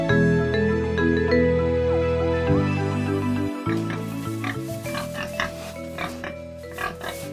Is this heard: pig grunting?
yes